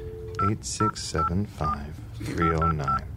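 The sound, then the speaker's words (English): A quick series of touch-tone beeps as the phone number 8675309 is keyed in, about seven short electronic tones in an uneven rhythm, with voices talking softly underneath. “Oh, wait, I found a number in the pop-up book. Can I see the phone?”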